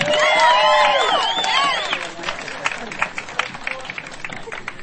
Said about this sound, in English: I'll let us get on with the party, but give yourselves a round of applause too.